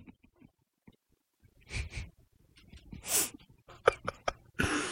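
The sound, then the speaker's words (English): A sharp, breathy sneeze bursts out after a couple of softer huffing breaths, followed by a few quick clicks and a short rush of hissing noise. “Bless you.”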